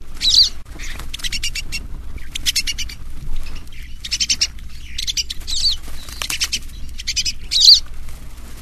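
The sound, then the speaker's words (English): Brown-capped rosy finch calls: a series of high, buzzy chirps in short bursts, repeated irregularly over a low outdoor rumble, with a flutter of wingbeats mixed in. “Colorado is the sole home to one of those, the brown-capped rosy finch.”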